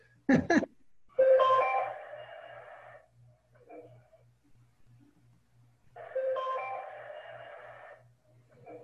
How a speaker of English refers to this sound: Okay, this is the first success tone. Yeah, this is a success tone.